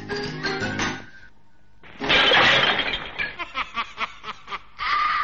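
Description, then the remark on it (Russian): A sudden loud crash of window glass shattering, broken by an old woman with a slingshot, with shards tinkling briefly, followed by a run of short rhythmic bursts like a gleeful snickering laugh. “Вы слышите? Это она из рогатки разбила стекло.”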